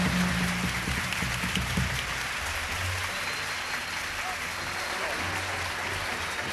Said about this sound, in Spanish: Un aplauso para Tomás Gray, el padrino de nosotros.